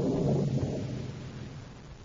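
A low, heavy rumble of distant thunder rolls steadily, strongest at first and slowly fading, with no voices over it.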